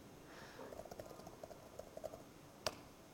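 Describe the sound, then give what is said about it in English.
Quiet, uneven tapping of keys on a computer keyboard during a telnet session to a small Galileo device running Windows, a dozen or so soft clicks at irregular intervals, ending with one sharper, louder keystroke. No one speaks. “Typing is very hard.”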